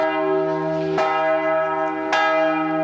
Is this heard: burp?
no